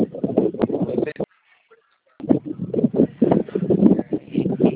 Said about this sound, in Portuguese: Entendi, é porque eu não consegui entender, porque tá um vento, tá ventando aí, pelo que eu tô vendo, você deve estar dirigindo, né? Eu não consigo entender.